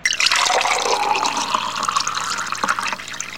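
Drinking water pours steadily into a glass for a few seconds, a continuous splashing gurgle with no voices.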